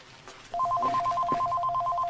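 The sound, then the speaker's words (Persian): A telephone rings with a rapid, warbling electronic trill that starts abruptly and continues steadily, fairly loud, with faint background noise and no one speaking. “به طرف گوشی میره و اونو بر میداره. الو.”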